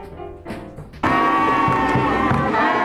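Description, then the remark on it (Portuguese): A murga carnival cornet, of the kind used by the first Río de la Plata murgas in the twentieth century, lets out a loud, brassy, sustained blare that holds steady for about two seconds, after a softer stretch of wavering tones and faint crowd noise. “Essa influência, somada à chegada dos imigrantes, levou ao aparecimento, já no século XX, das primeiras murgas locais, onde já era utilizada esta corneta, cujo som escutamos a seguir.”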